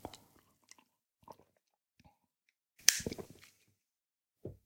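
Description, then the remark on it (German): Quiet mouth sounds as a person sips warm coffee: a few small wet clicks, then a short noisy slurping sip followed by gulping swallows, and one soft gulp at the end. No one speaks. “Naja, immerhin, auf die Weiße habe ich noch einen Schluck warmen Kaffee bekommen.”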